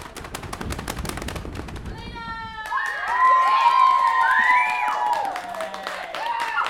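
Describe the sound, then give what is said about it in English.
A fast, rattling drumroll of rapid hits runs for a few seconds as the new Cheshire Cat lead for a play is announced, then gives way to a burst of excited cheering and high-pitched shouting voices. “Drumroll.”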